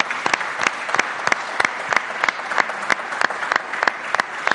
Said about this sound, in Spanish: Un aplauso para ella.